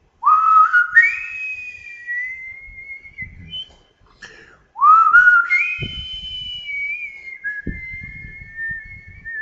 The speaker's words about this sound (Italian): aspettava e, aspettando, fischiettava.